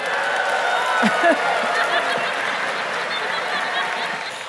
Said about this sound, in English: Y'all are cheering for malaria?